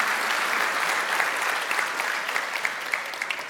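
Sustained audience applause, a dense wash of many hands clapping steadily at an even level, with a few sharper individual claps standing out toward the end; no voices.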